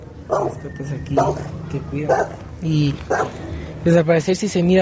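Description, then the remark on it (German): A dog barks repeatedly in short, sharp bursts at an uneven rhythm, loud, with a busy murmur of background noise underneath, at a health centre where patients wait outdoors in the cool evening air. “Es gibt auch Hunde, die aufpassen.”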